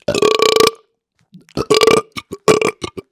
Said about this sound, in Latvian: Kas tas nu, es nevaru, bet tā, man rāda, ka man vajag atraugāties.